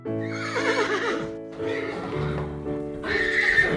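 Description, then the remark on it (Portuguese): A horse whinnies loudly three times in quick succession, each neigh a strained, quavering cry with rich harmonics, with no talking over it. “O cavalo, interessado, respondeu: eu quero!”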